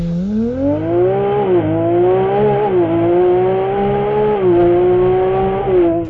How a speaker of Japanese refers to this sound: フェラーリのエンジン音ですよね。こんな感じですね。